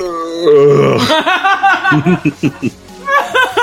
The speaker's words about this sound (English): You really forced that one. No, I didn't force it. It just didn't happen. It was one of those ones that, like, feel like you gotta burp, and then you burp, and it's just, It gets stuck into your throat? It was a fake burp. Yeah. It was a furp.